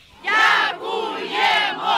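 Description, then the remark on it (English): A crowd in Kherson, Ukraine cheers and shouts in celebration after the Russian occupiers withdrew in November, many voices overlapping in loud, sustained swells that dip briefly in the middle before rising again. “The sounds of celebration were soon replaced by this, the new tyranny of Russian artillery.”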